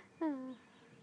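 A bird sings a single clear, slightly falling call lasting about a third of a second, fairly loud against a quiet outdoor background.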